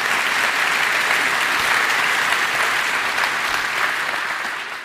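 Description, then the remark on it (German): Steady audience applause in Messehalle C welcoming a guest speaker, an AI researcher and author, a dense wash of many hands clapping at an even, loud level for several seconds before tapering slightly at the end, with no voices over it. “Auch für dich einen Applaus.”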